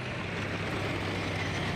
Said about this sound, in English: A little farther, the column of cars came to a halt.